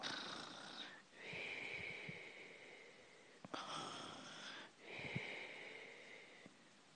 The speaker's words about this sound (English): Oh, you cheeky fucker. Do not snore louder than that. I don't snore.